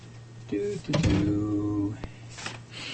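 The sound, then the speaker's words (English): A studio door swings shut with a creak and rattle, then a sharp latch click about a second later, over a steady low hum. “I have to close the studio door here.”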